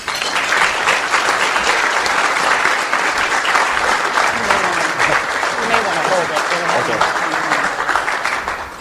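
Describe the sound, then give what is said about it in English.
An audience applauds steadily for about nine seconds, a dense, even wash of many hands clapping at constant loudness, with faint crowd voices mixed underneath, welcoming Ken Welch as speaker at a Tiger Bay gathering. “Please give a warm Tiger Bay welcome to Ken Welch.”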